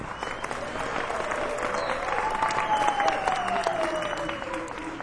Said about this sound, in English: Yeah, you can applaud.